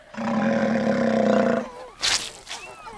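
A lion gives one loud roar lasting about a second and a half, a deep sustained growl. After a short pause come a few brief breathy vocal sounds.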